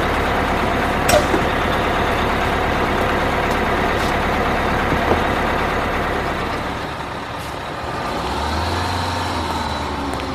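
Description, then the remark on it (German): A bus engine rumbles steadily as a group arrives by bus in Astoria, a dense low drone with mechanical clatter, easing off briefly before a deeper idle settles in near the end. “Kurze Zeit darauf kam die Gruppe mit dem Bus in Astoria an.”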